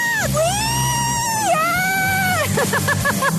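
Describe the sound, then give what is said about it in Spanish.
A woman in a wheelchair, being rushed through a shopping centre, lets out loud, high-pitched screams of "ah," two long wavering wails that break into quick stuttering pulses, over a low background rumble. “Y entonces no se imaginan, estoy en silla de ruedas y ella corría y yo gritaba ¡ah!”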